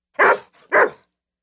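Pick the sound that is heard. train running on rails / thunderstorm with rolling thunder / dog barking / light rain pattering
dog barking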